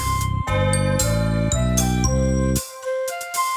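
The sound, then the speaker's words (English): Church bells, the great bell at Bow, ring out in a steady descending sequence, about six loud strikes roughly half a second apart, each tone ringing on and overlapping the next, with no voices. “I'm sure I don't know, says the great bell at Bow.”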